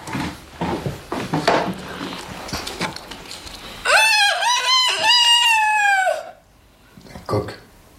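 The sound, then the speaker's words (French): A rooster crows loudly once, a long harmonic call lasting a couple of seconds, following a stretch of indistinct background sounds and movement, with a short noise after it ends. “C'est un coq.”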